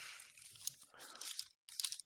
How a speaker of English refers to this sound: I don't hear the paper, the page turns as loudly, but I still hear them.